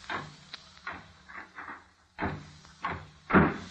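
door closing

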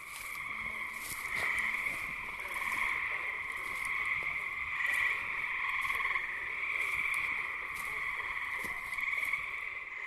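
chorus of tree frogs

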